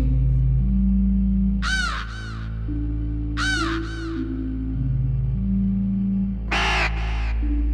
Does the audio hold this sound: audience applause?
no